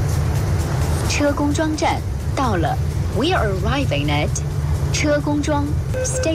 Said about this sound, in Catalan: La Xina és un dels països on el reconeixement facial està més estès. El metro, que ara sentim, s'hi pot entrar així. És a dir, tu no has de passar res. Tu poses, ensenyes la cara amb una càmera i pots entrar si estàs abonat.